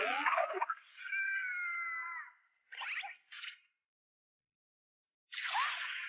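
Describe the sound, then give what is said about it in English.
Cartoon attack effects in a Pokémon battle as Chikorita uses Razor Leaf against Bulbasaur: a shrill, wavering cry gives way to two quick whip-like swishes, then after a brief silence a longer, bright whoosh. Fairly loud, with no talking. “It's using Razor Leaf!”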